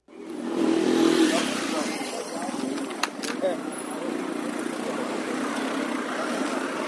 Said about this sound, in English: After a week of mostly empty streets, Kenya's capital city is coming back to normal. Traffic is flowing and people are going back to work.